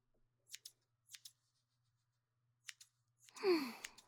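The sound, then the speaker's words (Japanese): Crisp scissor snips cutting hair around the ear on the left side of the head, two quick double-snips followed by a lone pair, then a longer breathy rustle at the end; no one speaks. “はい、左側も切ってくから。耳周りだからハサミの音大きいかもしれないけど、音しっかり楽しみな。”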